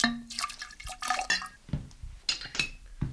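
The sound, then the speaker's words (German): Alcohol is poured and splashes into a glass container for making drops, with small clinks and drips, fairly quiet, over about three seconds without any talking. “Es kommt zwar kaum jemals vor, dass ein Kunde die Tropfen bestellt, aber er könnte. Hier der Alkohol.”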